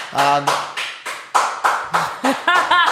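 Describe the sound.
Loud, steady rhythmic clapping, about nine sharp claps at an even pace, while voices call out over the beginning and the end.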